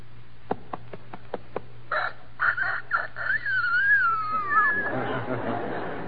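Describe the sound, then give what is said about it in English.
A four-month-old young rooster gives one thin, wavering crow lasting a few seconds, its pitch cracking and sliding, after a short run of sharp clicks over a low steady hum. “All right, now 4 months.”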